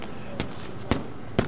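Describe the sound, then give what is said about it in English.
Three sharp, solid smacks of punches landing on a boxing pad at Team Redemption Boxing Gym in East Baltimore, evenly spaced about half a second apart, punchy over a low murmur of room noise. “This is when you're hitting it, right? And it moves. It's like a hit.”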